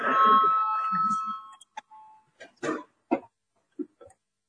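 A loud, steady electronic voting bell rings for about a second and a half in a parliament, called before a vote on a deputy's proposal, then stops, leaving scattered coughs and brief murmurs.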